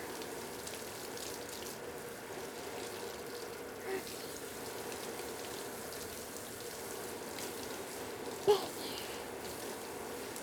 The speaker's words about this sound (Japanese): ちょっとだけ手でわしゃわしゃってして、頭全体にシャワーの水をなじませますね。わしゃわしゃ、はい、わしゃわしゃ